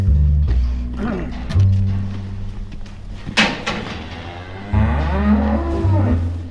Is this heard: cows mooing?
yes